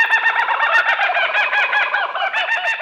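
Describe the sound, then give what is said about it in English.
A loud, raucous laughing call of a kookaburra, rapid rolling hoots and cackles rising and chattering continuously, dense with no speech. “It's also earned the name Bushman's Clock, Breakfast Bird, and Alarm Bird for its reliable habit of loudly ringing in the dawn.”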